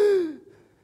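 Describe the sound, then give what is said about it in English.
A single sharp, voiced intake of breath, loud, with a brief falling tone that fades quickly into quiet, a person gasping for air. “I got to get to the air and I got to take a gasp.”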